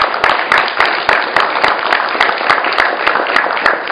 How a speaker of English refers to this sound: And I think a round of applause on that would be appreciated.